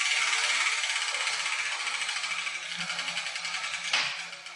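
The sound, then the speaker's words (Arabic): A letter wheel spins with a rapid, steady mechanical clicking like a ratchet, slowing slightly. A sharp clack near the end is a lettered ball dropping from it, followed by a few more clicks. “إذن سأذهب إلى دولاب الأحرف يا جدتي وأرى أي كرة تسقط منه.”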